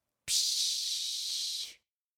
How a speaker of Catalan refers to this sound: La dutxa fa...